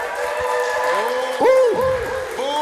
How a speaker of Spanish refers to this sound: Aplauso para Team Marihuana.